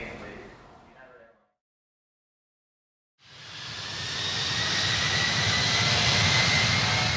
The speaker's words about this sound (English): The airplane took off and the friends relaxed in their seats.